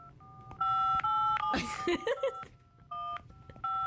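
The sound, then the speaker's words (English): Phone dialing tones beep in short bursts as an outgoing phone call is placed and rings, broken up by a brief stretch of noise and muffled voices partway through, then the tones resume toward the end. “Okay, and call him. It's ringing.”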